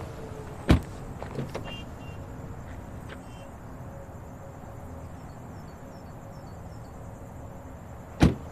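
Two sharp, heavy thuds of car doors slamming shut as people get into a car, one at the start and another at the end, with faint shuffling and rustling between them over a steady outdoor background hum.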